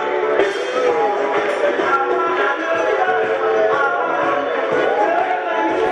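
A loud crowd protesting homeless deaths: a dense, steady roar of many overlapping voices shouting and chattering at once, with no single speaker standing out, sustained at high volume throughout.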